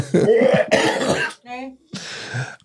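A harsh, gagging throat-clearing cough in two rough bursts, then a brief strained retching sound with a tonal edge, followed by another raspy cough. Loud and alone, no talk.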